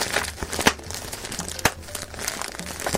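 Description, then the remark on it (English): Popping bubble wrap from a package: steady crinkling of plastic punctuated by a few sharp, snappy pops, two standing out clearly, with no one talking. “I'm just going to zone out now, get into a zen state, and pop some bubbles.”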